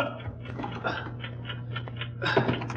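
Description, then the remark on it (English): A steady mechanical ticking, muffled from inside a closed traveling bag, repeats in an even rhythm over a low constant hum, with a slightly louder rustle near the end. “Yes, the ticking's coming from inside the bag.”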